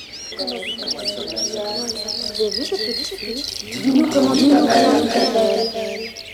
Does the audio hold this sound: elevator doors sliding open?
no